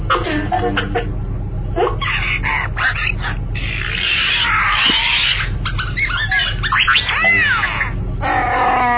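Loud, raspy Wookiee roars, upset over a move in a game, come in repeated bursts, some rising into warbling, howling wails, over a steady low hum.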